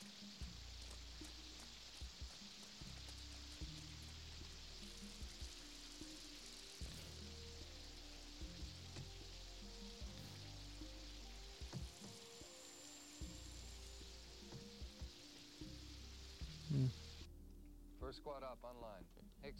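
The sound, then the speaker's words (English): Steady rain patters and hisses on a hard surface, a constant wash of sound with muffled low voices murmuring underneath, the rain cutting off abruptly near the end. “It's raining.”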